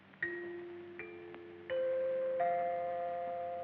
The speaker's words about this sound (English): When you hear the sound of the chime, the time will be 12 o'clock, midnight, Pacific Standard Time.